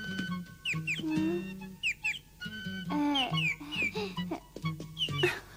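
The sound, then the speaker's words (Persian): A caged bird chirps busily, a run of quick, bright tweets and rising calls, mixed with lower clucking notes throughout, with no one talking. “چی شده؟ چرا به خونت توی جنگل نرفتی پرنده؟”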